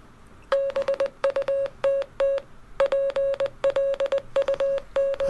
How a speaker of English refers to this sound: I didn't realise Morse code was this fast.